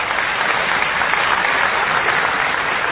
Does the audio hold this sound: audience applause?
yes